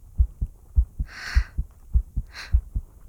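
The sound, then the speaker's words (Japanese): The steady heartbeat of Hades, heard with a head laid against him, thumps muffled, its paired low beats repeating evenly, with two brief soft rustling swishes layered over it partway through. “ハデスの心臓の音聞こえますか？”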